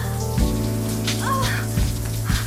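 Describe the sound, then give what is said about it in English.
Shower water runs in a steady, even hiss over a low droning hum, with a few soft splashy bumps and a brief rising tone partway through. No one speaks. “their moans masked by the sound of the shower”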